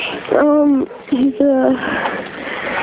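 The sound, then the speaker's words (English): A Kelpie cross dog whimpers, letting out two drawn-out, high-pitched whines separated by a brief pause, over a steady background hiss. “He's a Kelpie Cross. Kelpie Cross, pretty playful, hey?”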